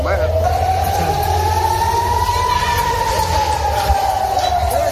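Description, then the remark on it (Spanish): Air raid sirens sound in Israel's second city for the first time in about four months, after Hamas rockets were fired at central Israel: a long wailing siren rises slowly and falls again, loud and steady over a low rumbling city background. “Por primera vez en unos 4 meses volvían a sonar las sirenas en la segunda ciudad del país.”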